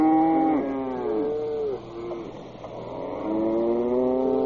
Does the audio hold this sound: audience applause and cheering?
no